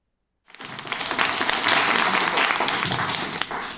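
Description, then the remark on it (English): After a brief silence, an audience bursts into applause at a lecture by L. Ron Hubbard given on 6 September 1960: a dense, steady wash of many hands clapping that holds at an even, fairly loud level for about three seconds. “You wouldn't be applauding if you knew what this lecture is going to be about.”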